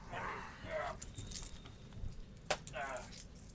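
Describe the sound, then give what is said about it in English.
Metallic coins jingle and clink together in a few short bursts as they are put into a pocket, with soft vocal sounds between them. “I put the coins in my pocket.”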